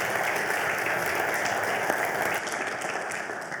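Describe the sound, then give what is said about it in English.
A crowd applauds steadily for a returning guest preacher, a dense wash of many hands clapping that stays full and even throughout, easing off just slightly toward the end. “Maybe a round of applause would be appropriate.”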